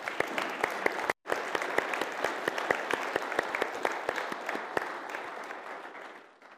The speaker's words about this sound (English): Actually, let's give him a round of applause.